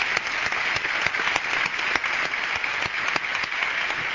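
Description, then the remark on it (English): A crowd applauds a panel for their leadership, steadily, a dense wash of many hands clapping with sharp individual claps popping through, sustained at an even, fairly loud level with no voices. “Let's give all of them a round of applause for their leadership.”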